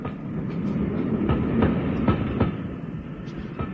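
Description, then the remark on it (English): A train rumbles steadily along the tracks at night, its wheels clacking over rail joints in a loose rhythmic pattern of sharp clicks above a constant low roar. “Well, that's how the score stood that night when I got off the train in that little seaside town”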